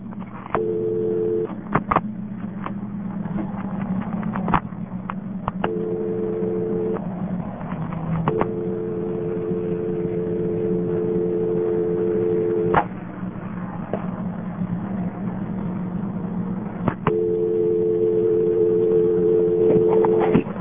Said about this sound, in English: I just hung up after I got that softer dial tone and lifted the phone up again after a few seconds. So the test dial tone's still on there.